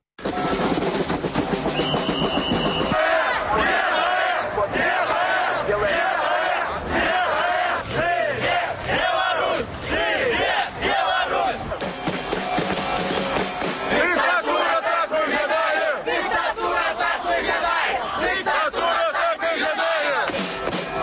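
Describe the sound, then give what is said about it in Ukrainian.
A large crowd at the Chernobyl Way protest rally in Belarus chants and shouts together in loud, sustained waves of voices, rhythmic calls rising and falling over a dense roar of many people for the whole stretch. “Ну а зараз у ефірі гуки з акції.”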